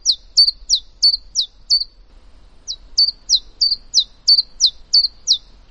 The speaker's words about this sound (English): And as their name suggests, chiffchaff is their song. They go chiffchaff, chiffchaff, chiffchaff. Sounds a little bit more like sort of tick-tack, tick-tack. Here's the chiffchaff.